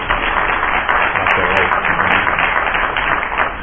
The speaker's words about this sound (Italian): buonasera del nostro tutto pubblico, ma soprattutto buonasera del nostro relatore di questa serata, che introduco, il professor Orezze Anne e il professor Pierpaolo Brunini, che avrei un bel applauso per la loro disponibilità.